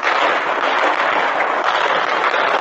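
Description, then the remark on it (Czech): A dense, nonstop crackle of firecrackers going off in rapid bursts, loud, with the pops blurring into one continuous rattling roar and no voices audible, on New Year's night in the Prozivka part of Subotica. “Dosta drugačije je bilo u drugim delovima Subotice poput prozivke u kojoj su rafali petardi bili glasni od muzike.”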